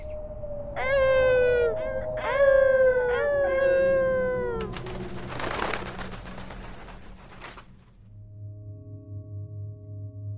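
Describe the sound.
Several voices imitate wolf howls, overlapping in long rising and falling wails for a few seconds, loud, then give way to a rushing noise and a low hum.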